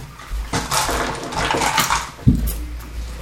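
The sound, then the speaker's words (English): Three six-sided dice clatter and tumble across a hard table in a quick burst of bright clicks over about two seconds, ending with a sharper knock as they settle, rolled for a charisma check in a tabletop game. No one speaks. “I need a roll below by charisma. 3d6 equal to or below.”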